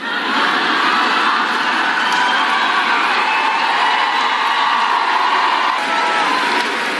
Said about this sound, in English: Listen to the jeering at the end of this. The crowd loves it because they hate Christians for some reason.